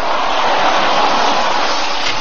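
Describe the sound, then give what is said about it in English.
Heavy rain pours down steadily in a dense, hissing roar, with gusty wind blended in, loud throughout with no voices, on a dark night in the country by a dirt road leading up to a house. “It was a dark night, very windy and raining hard as we pulled up the dirt road to the house.”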